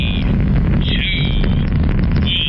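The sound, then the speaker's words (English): A loud, steady jet engine roar with a deep rumbling base and a high whine riding on top, continuous for the whole moment as a plane powers up for takeoff. “This means that the jet engine and the plane it's attached to are off.”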